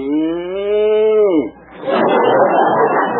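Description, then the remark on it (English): A single loud cow moo, from a cow wearing a gas mask at a circus, holds a steady low pitch for over a second, then drops away and gives way to a rough, breathy rushing noise with no talking. “What an elephant! A cow wearing a gas mask.”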